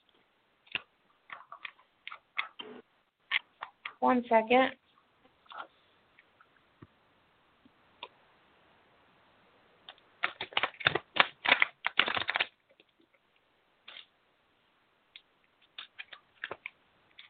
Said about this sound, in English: I'm going to put you on speakerphone. Just so I can shuffle my cards.